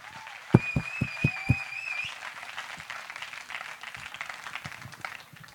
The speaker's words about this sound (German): Einmal einen Applaus